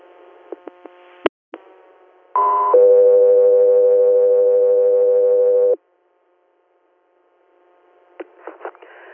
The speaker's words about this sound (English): Country Air, stand by for tones.